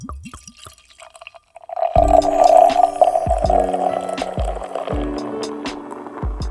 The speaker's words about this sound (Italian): Adesso che sappiamo proprio tutto di questa birra, stappiamola insieme e assaggiamola.